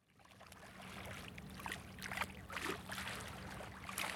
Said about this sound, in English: On a sunny autumn day, waves calmly lap on the bank of the Mississippi River in Grafton, a southwestern Illinois town of 650 people.